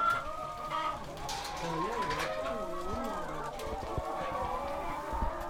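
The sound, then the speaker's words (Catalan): Organic laying hens cluck and croon continuously in a chicken coop, overlapping calls rising and falling in a steady busy chorus, with some faint human voice mixed in underneath. “Bé, doncs entrem aquí amb les gallines.”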